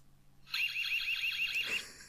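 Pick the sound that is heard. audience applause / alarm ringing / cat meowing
alarm ringing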